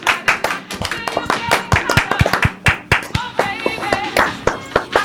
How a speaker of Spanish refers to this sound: ¡Sois geniales! ¡Un aplauso!